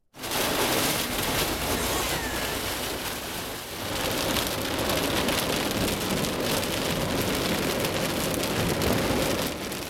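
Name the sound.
rainstorm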